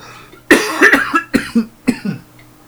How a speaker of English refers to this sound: And that is why Audacity needs a fucking cough button so that you don't have to listen to me choking to death on the podcast.